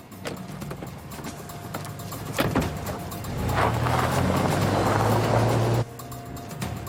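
A van engine starts up and revs as it pulls away, a rising low drone lasting a few seconds before cutting off abruptly, with some earlier clunks and rattles; robbers driving off in the homeowner's van, used as their getaway vehicle.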